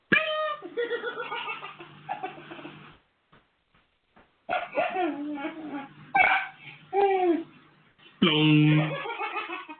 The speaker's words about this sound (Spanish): Risas de los bebés, esas risas contagiosas, son risas maravillosas que siempre nos vamos a llevar en la mente, que siempre las vamos a tener presentes, porque son las risas y los momentos que uno nunca puede olvidar.